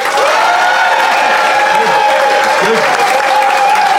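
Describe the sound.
The Phoenix audience bursts into sustained applause as a public vote, dense rapid clapping at a steady loud level throughout, with a faint wash of crowd voices and cheering underneath.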